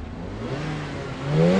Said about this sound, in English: Revving up in the car park, Raja admits he's going nowhere fast.